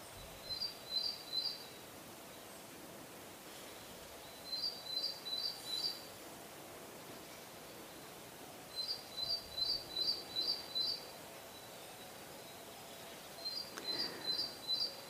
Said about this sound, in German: Vielleicht nimmst du Vögel wahr oder andere Geräusche im Wald.